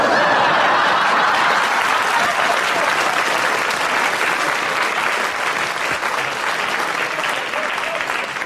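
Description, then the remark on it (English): An audience claps steadily for several seconds, applauding Clement Freud's challenge: a dense, even wash of applause that stays loud throughout and tapers only slightly toward the end, with no talking over it. “So give Clement a bonus point for the challenge that we all enjoyed and the audience applauded”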